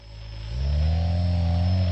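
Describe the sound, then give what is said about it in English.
A hexacopter drone built from scratch by a hobbyist engineer in his workshop: its motors whir in a steady low hum, then rev up louder around halfway through as it is tilted and the pitch climbs, holding a sustained buzzing drone with faint high whine overhead. No one speaks. “So you see when I tilt it, you hear when I tilt it?”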